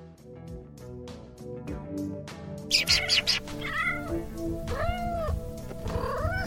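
A kitten gives several high, thin meows, each rising and falling in pitch, over steady rhythmic background music. The meows come close together near the end, clear and fairly loud.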